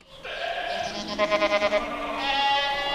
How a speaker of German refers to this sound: Mit Stallkino lockt der Ziegenhof in Zollbrücke. Durch ein großes Fenster schaut der Besucher auf 120 deutsche weiße Edelziegen, die friedlich meckernd im Stroh liegen. Neugierig schauen die Ziegen zurück.